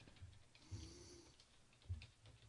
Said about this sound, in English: let me type ostentatiously on my loud keyboard to see if Ed McMahon is still alive